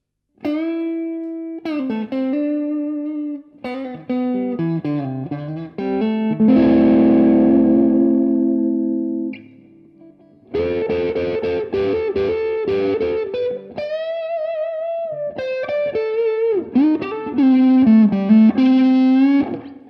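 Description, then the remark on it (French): An electric guitar through a TS9 overdrive pedal, with tone and drive set in the middle, plays warm, mildly distorted melodic phrases and bends, with a ringing sustained chord midway and a brief pause before the lines resume. No voices. “On commence avec le côté TS9, d'accord, si donc tu veux bien. Ce drive, voilà. Ce petit drive.”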